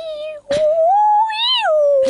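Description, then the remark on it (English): A person imitates humpback whale song with one long, loud wavering moan that slowly rises and falls in pitch, broken by short breathy bursts. “does a good impression of a humpback whale.”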